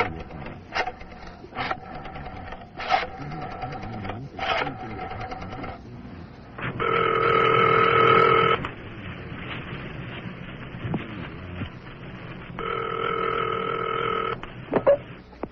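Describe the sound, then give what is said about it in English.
A phone handset clatters and clicks as it is picked up by someone lying on a bed and dialed, followed by two long electronic ringing tones separated by a pause, fairly loud with no talking. “Well, once more, I lay on the bed and picked up the phone. One last try.”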